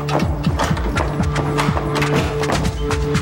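In the film The Last Chapter 2: The War Continues, a biker carrying a heavy duffel bag knocks on a hotel room door: a series of hard, hollow knocks struck in an uneven rhythm over a steady, low musical drone that plays throughout.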